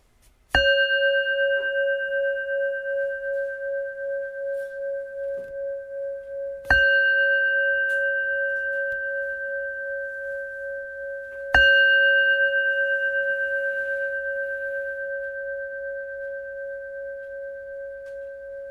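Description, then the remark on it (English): A meditation bell is struck three times during a guided meditation, each strike ringing out in a clear, steady tone that hums and wavers as it slowly fades, with no voices. “Each time I ring the bell, that means come back to the present moment, saying that maybe you lost, and then saying come back to the present moment, and that that's a sign.”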